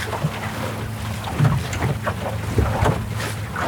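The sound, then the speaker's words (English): A sailboat cruising steadily through the water at 5.5 knots as the wind picks up, with constant wind rushing over the microphone, a low hum beneath, and occasional splashes and creaks as the hull rides the waves. “And with that, the wind's coming up again. You know, the boat's starting to come to life. Cruising along at 5.5 knots here.”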